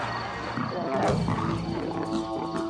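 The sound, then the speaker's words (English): A lion roars and growls, one deep, rumbling, sustained call lasting a few seconds, loud and rough, with no other sounds competing. “If someone asks you to think of a magnificent hunter, chances are a lion's image would pop into your head.”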